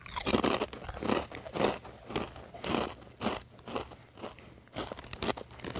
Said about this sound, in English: Apologizing for the loud crunching here, because we got some kettle chips going on. And if you know anything about kettle chips, these are like jawbreakers. They're the crispiest chips out there.